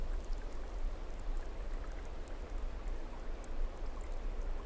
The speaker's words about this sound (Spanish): Muy poco a poco dejas que el agua que cae con fuerza pura de esa montaña comience a limpiarte.